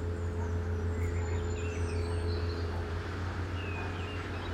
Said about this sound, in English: Through the sound of that tractor engine in the background, you can just hear the piercing sound of the bird song, which is beautiful to listen to in such a, despite the sound of that tractor, a quite a serene scene.